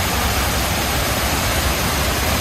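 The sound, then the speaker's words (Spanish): A steady, powerful roar of water falling into the pools of the memorial fountains at the former Ground Zero site in New York. It is a dense, continuous rush without pause, loud, with no voices present. “En lo que supo ser la zona cero, escuchan el potente sonido del agua cayendo al vacío en las fuentes del memorial.”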